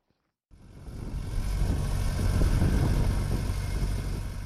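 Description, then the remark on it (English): A tractor engine rumbles steadily at a low pitch, starting abruptly after a brief silence and holding a loud, continuous drone with slight rises and dips as it tills land on a farm about 40 kilometers north of Harare, ahead of the rainy season. “At Mugutu Farm, about 40 kilometers north of Harare, a tractor tills land ahead of the rainy season expected anytime now.”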